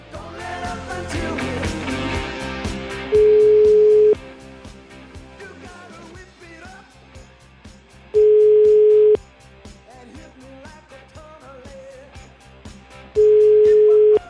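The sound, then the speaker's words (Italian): A steady telephone line tone sounds three times, each about a second long and evenly spaced, as a call is placed to Naples. The tones stand out loudly over a busy, cluttered background. “Chiama Napoli. Tutto in diretta, eh? Chiama Napoli 081.”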